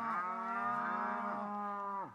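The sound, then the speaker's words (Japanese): A single long, loud moo from a cow in a herd of 500 cattle brought by Yoshinaka's retainers, a steady harmonic bellow lasting about two seconds before dropping off at the end, with no talking. “義仲の家来たちが牛を連れてきました。 もうもうもう、 たくさんの牛です。”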